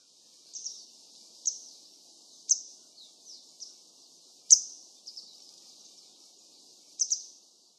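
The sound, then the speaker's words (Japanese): A Eurasian skylark sings high, thin, buzzy trills with sharper chirps breaking out every second or so, all at moderate volume with no voices. “ヒバリです。”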